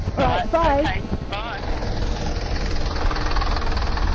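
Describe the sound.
A number 20 bus pulls up, its heavy diesel engine rumbling loudly and idling steadily, with brief voices audible early on over the engine noise.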